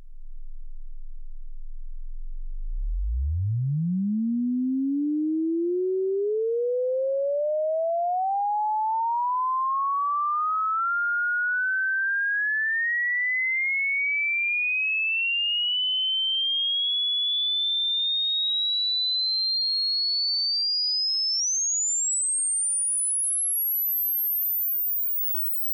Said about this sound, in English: Now for a sweep of tones through the entire audible spectrum. Don't be concerned about the fluctuations in loudness you hear.